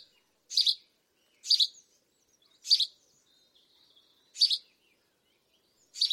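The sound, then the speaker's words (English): A house sparrow chirps alone, repeating short, bright, simple notes about once a second with brief gaps between them, clear against a quiet background. “Some bird songs aren't particularly melodious to the human ear, and I brought along the song of the house sparrow, and it really doesn't sound like a song at all.”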